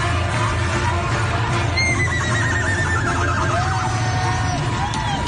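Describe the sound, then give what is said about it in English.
A woman's voice imitates a horse's whinny, a loud, shaky neigh that trails downward in pitch, heard over a steady roar of background noise from a large crowd at an Oklahoma football game. “And there's a woman who's standing there making horse noises.”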